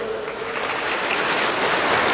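Steady, dense clapping from a sizable crowd at a parish gathering, welcoming guests from the Good Shepherd parish in Olkusz, Poland; a continuous crackling wash of many hands at an even, fairly loud level with no voices on top.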